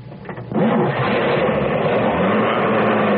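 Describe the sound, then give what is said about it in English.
A car engine, started with an ignition key whose shape was changed, cranks briefly, catches with a sudden loud surge, then settles into a steady, rumbling idle with a low, even hum. “I've never thought changing the shape of the ignition key could make that much difference in our car runs.”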